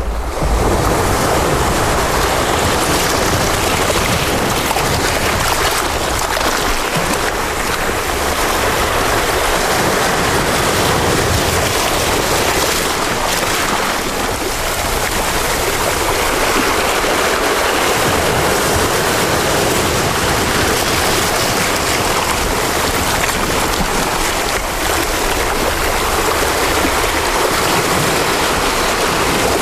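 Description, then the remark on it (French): Ocean waves break steadily on a beach in Brittany, France, a loud, continuous wash of surf filling the whole scene with rolling swells and hissing foam, with some wind noise and no voices. “Et comme l'autre fois, on va se mettre dans le bain, en respirant, en prenant une grande bouffée d'air marin et en nous accordant avec le chant des vagues.”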